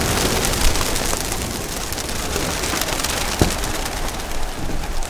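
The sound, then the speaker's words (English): A big flock of pigeons takes off from a roof, a dense, steady rush of many flapping wings, with a couple of sharper flutters standing out from the roar. “I'm trying right now to get them to go straight up.”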